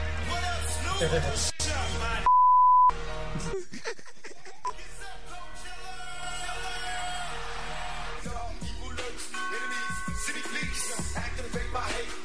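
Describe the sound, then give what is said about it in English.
A song with singing is interrupted by a single loud, steady censor bleep lasting about half a second, which cuts out the music before the track resumes. “Oh, I love this version because there's a lot of beeping in this one.”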